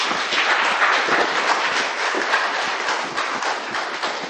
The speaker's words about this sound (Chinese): 好，我们鼓掌欢迎他。